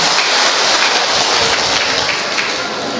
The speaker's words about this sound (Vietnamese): Rồi, chúng ta cảm ơn nhau một tràng pháo tay thật lớn thưa anh chị em.